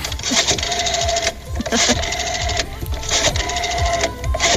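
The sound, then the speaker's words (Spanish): A rotary telephone dial whirs and clicks in rapid mechanical bursts, each run of ticking lasting about a second before a brief pause and the next spin, fairly loud and steady throughout. “¿Tú no has conocido los teléfonos así?”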